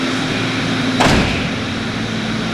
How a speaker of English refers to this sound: I'm going to step in here and close the door because I'm not.